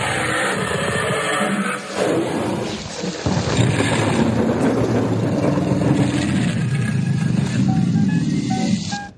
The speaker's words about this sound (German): Und dann dahinter vielleicht noch so ein Donnern. Dahinter vielleicht noch so ein Donnern, das wäre schön.